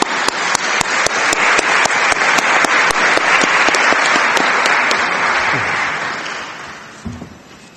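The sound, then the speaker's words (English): An audience at a seminar applauds steadily, a dense wash of many hands clapping that holds strong for several seconds, then gradually thins and fades toward the end. “I give them a lot of applause, I think.”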